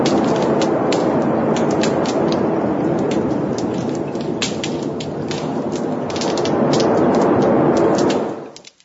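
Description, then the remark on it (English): A snapping shrimp, a small crustacean about an inch and a half long, snaps its big claw underwater: a continuous, dense, steady hiss of countless tiny clicks like radio static, with sharper pops scattered throughout and no voices. It swells slightly toward the end before cutting off. “The only thing that you're going to hear here is a snapping shrimp, a small crustacean about an inch and a half long, that's snapping its big claw.”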